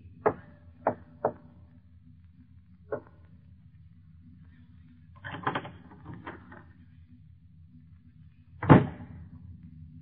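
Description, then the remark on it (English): A door opens: a quick run of sharp latch clicks and knocks, a rattling clatter midway, then one heavier thud, all over a low steady hum with no voices. “And the opening of this door introduces us to another in the series, The Key.”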